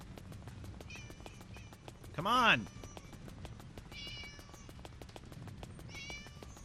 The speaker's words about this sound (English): Come on, cats. Meow, meow, meow, meow, meow.